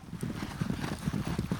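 Thundering hooves of several horses galloping in a polo game in South Carolina pound the ground in a fast, uneven rhythm, with heavy, overlapping thuds and no voices.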